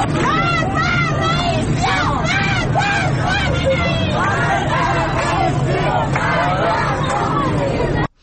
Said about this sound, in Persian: کاشان خیلی شلوغ بوده و تجمع کرده بودن. صدای مردم کاشان رو بشنویم.